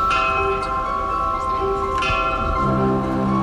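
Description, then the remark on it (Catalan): The first three prototype bells made from Gaudí's designs for the Sagrada Família ring together in a morning rehearsal for the concert 84 campanes in Plaça Catalunya, their deep, layered tones sustaining and overlapping, with fresh strikes about two seconds in and again shortly after, shifting the pitch mix. No one speaks. “Així sonen els tres primers prototips de les campanes”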